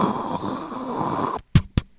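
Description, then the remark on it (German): A voice imitates the first side of an audio drama cassette tape running out: a steady breathy hiss for over a second, then a sudden stop and two short clicking bursts. “Ja, aber bei Hörspielkassetten, weißt du, hast du auch immer noch dieses Rauschen. Und wenn die erste Seite vorbei ist, hast du dieses...”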